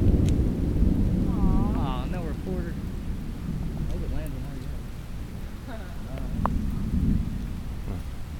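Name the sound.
rain falling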